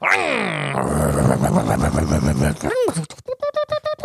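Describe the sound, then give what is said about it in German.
A voice imitates a modern car engine driving over a ramp: a rising revving whine, a rough rumbling stretch, a swooping leap, then several short sputtering bursts as the engine stalls at the end. “Ich würde gerne mal mit einem Auto über eine Rampe fahren.”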